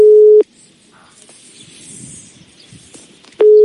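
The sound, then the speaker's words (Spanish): A loud, steady telephone ringback tone sounds briefly, then falls silent for about three seconds of faint line hiss before the same tone starts again, while a call is placed to a contest winner. “Igual te cortan los tonos”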